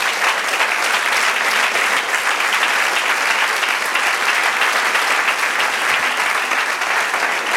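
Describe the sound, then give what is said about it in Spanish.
A large group applauds steadily and loudly as an applause to the Lord, a dense wash of clapping from many hands that holds at a constant level without pause or speech. “Del otro aplauso al Señor.”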